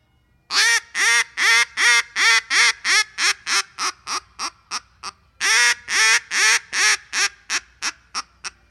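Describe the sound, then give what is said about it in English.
A duck call imitates a mallard hen: two loud runs of raspy quacks, each starting long and emphatic, then quickening and shortening into a descending cadence, with no talking. “A lot of the other ducks, man, they just do whistling, and so I can give you a demonstration of what a mallard hen would sound like.”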